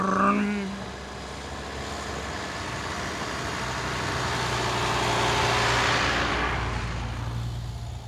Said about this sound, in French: Puis ils entendent, au loin, pas très loin, à une centaine de mètres, des gros bruits de moteurs qui s'en viennent vers la forêt.